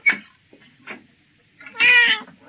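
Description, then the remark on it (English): A cat meows to be let in, starting with a few short, clipped calls and ending in one longer, drawn-out, insistent meow. No other sounds or voices. “Let the cat in, will you? I've only just let it out.”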